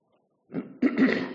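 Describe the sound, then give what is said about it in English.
A rough throat clearing: a low rasp followed by a couple of harsh, gritty bursts, lasting about a second with no speech around it. “Somebody needs to clear my throat.”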